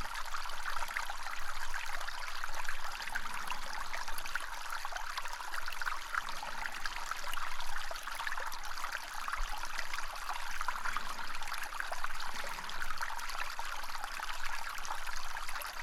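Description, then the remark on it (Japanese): Gentle water trickles and burbles steadily for the whole stretch in a shrine room filled with water like a pond, a soft continuous hiss with faint bubbling, no voices and no change in level throughout. “このささやかな水の音を聞きながら、わらわの足の感触をしばし堪能するとよい。”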